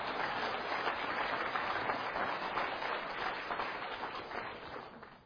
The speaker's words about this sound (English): I would gladly receive that applause if I had done something. But we know who deserves it all.